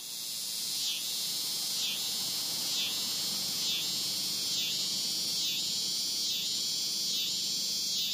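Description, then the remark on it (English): Cicadas drone at the end of summer in a loud, steady high-pitched buzz that pulses in regular waves about once a second, filling the air with no voices present. “Yes, the cicada announces the season's change like no other.”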